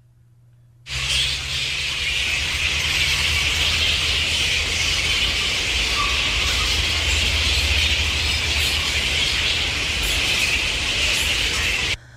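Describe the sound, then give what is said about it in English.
A loud, dense chorus of flying foxes calling: shrill squeals and chatter blend into a steady high-pitched din that starts abruptly after a moment of quiet and continues unbroken over a low rumble. “Flying foxes.”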